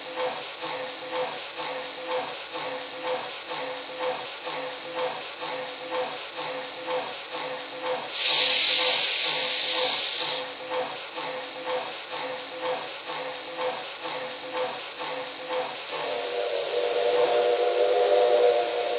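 A recently overhauled steam locomotive chuffs in a steady, even rhythm, interrupted midway by a loud burst of hissing steam, with another broad hiss swelling up near the end. No one speaks.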